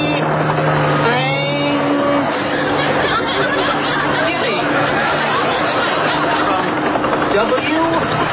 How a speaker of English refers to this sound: And, oh yes, I can see it now. It's a helicopter. And it's coming this way. A helicopter? It's flying something behind it.